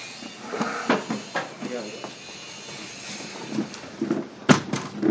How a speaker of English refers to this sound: Close the door.